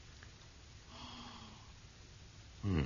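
sniffing whisky

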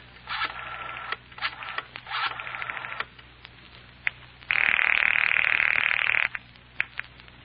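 telephone dialing and ringing

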